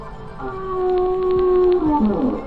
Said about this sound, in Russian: Погоди, дядя Кузя, кажется, прямо по курсу еще один кит. Ой, он разговаривает. Даже, кажется, поет.